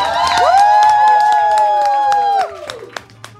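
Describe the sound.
A crowd cheers and whoops loudly over steady clapping for about two and a half seconds, then the voices drop away and only a few scattered claps remain.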